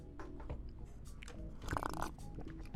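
Someone bites into a powdered donut from a box just bought and chews, producing a steady run of soft, crackly mouth sounds and wet smacks for a few seconds, with no talking.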